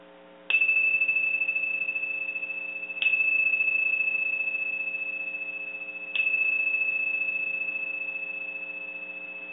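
A bell is struck three times at slow, uneven intervals, each strike blooming into a bright, sustained ring that fades slowly and overlaps the next, with no voices. The bells are rung to open a session, inviting everyone to become present.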